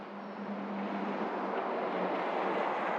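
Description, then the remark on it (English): A bus drives past with a steady, broad engine roar and a low droning hum underneath, holding fairly constant in loudness throughout, with no talking. “And that was my bus that just drove past.”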